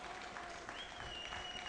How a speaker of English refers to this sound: Santos set. Those that remain start clapping.